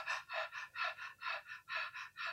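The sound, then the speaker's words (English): A voice imitates a newborn baby's rapid, shallow breathing: about ten quick, airy breaths in steady rhythm, fairly soft, with no talking. “And I'm standing there knee deep in water with this and with the baby, and he's breathing, you know, like rapidly, like babies do.”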